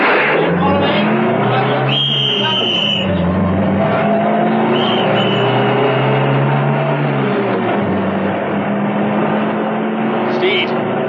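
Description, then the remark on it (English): An armored car's heavy engine starts and roars loudly, revving with shifting pitch as it drives off, a continuous rumbling growl that fills the whole stretch. “ran towards the armored car. Steed started her up, and they roared off.”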